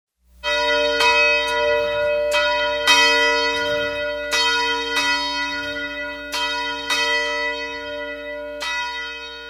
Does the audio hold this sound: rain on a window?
no